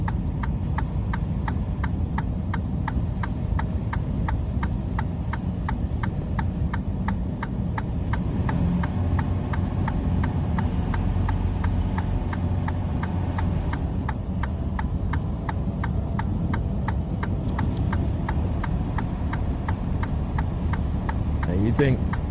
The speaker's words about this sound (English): You can hear his emergency blinkers going.